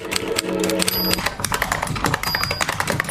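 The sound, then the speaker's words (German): Rapid, busy clatter of keys being typed, a dense stream of sharp clicks and taps, with a brief tonal hum underneath in the first second. “Tippen, Tasten, Funken, Radio.”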